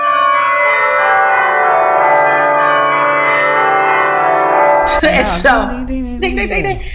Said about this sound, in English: It is officially the last week of July in the year of our Lord 2019, also known as your wedding week. Happy wedding week. We need some wedding bells.